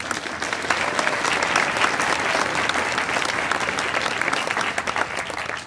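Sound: audience applauding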